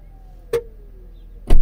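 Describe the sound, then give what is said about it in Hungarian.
A car boot lid closes by itself after a button is pressed: a short click, then a faint motor whine sliding slowly downward in pitch, ending in a heavier thud as the latch catches. “Tuk! És le is csukódott.”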